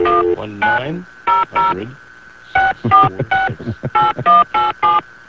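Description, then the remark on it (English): A rapid sequence of touch-tone beeps as a phone number is dialed, each short tone distinct and evenly paced, with a brief pause midway, clear with no talking. “That's a bad number. Try another one,”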